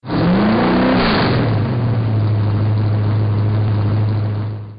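A car engine revs loudly, its pitch climbing, as a man gets in the car, then settles into a steady droning hum as the vehicle pulls away and keeps driving. No voices are heard.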